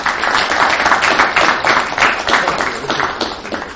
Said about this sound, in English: And I think we were very lucky to have her help steward the ship through this. So, Mayor, we appreciate it. If we could give her a round of applause.